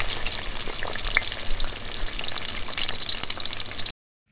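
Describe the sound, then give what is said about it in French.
Steady crackling sizzle of chicken simmering in a saucepan, a dense bright hiss with scattered pops, continuing evenly for about four seconds before cutting off abruptly. “avec le bruit du poulet qui mijote dans la casserole comme musique de fond.”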